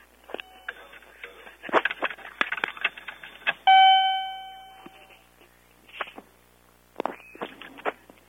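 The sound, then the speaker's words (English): Electronic beeping in an elevator as its buttons are clicked: a flurry of quick clicks and short tones, then one loud, ringing beep that fades slowly, followed by a few fainter bursts. “What's all that beeping? Beep, beep, beep. Make it quit.”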